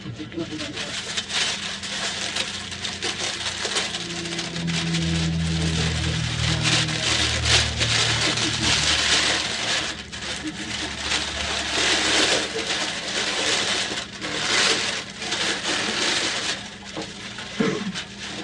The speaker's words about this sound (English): We can both rip paper, though.